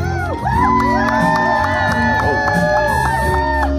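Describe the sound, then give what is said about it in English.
A large crowd at a Joe Biden campaign rally cheers and whoops loudly as he makes his entrance walking down the stairs, many overlapping voices rising and falling in a dense, continuous roar that fills the whole stretch without a pause. “Here's Joe Biden and a big entrance to his latest rally. Listen to that crowd.”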